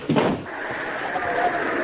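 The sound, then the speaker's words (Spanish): A heavy door thuds shut once near the start, a single dull knock followed by a steady hiss of background noise. “Después Dios ya cerra el puerta.”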